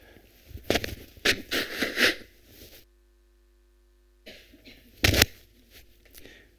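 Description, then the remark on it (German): A speaker pauses a sermon to blow their nose in several harsh, breathy bursts, the loudest over a second long. A silent pause follows, then one more sharp, forceful blow with some rustling. No talking. “Entschuldigung, ich muss noch mal Nase putzen.”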